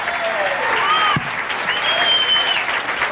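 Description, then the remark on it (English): Steady audience applause, a dense continuous wash of clapping that stays loud throughout, with a few faint whoops and a voice rising briefly above the crowd noise. “Thanks for applause”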